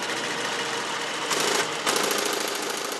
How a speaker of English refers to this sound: You're hearing the IBM 1401. It was a computer system about the size of a two-car garage. On a recent afternoon at the Computer History Museum in Mountain View, California, a few old-timers got it up and running to demonstrate what it could do.